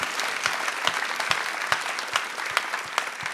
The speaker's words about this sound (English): Let's clap for that.